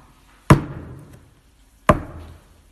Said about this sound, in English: His body was broken for you, that you may answer this knock.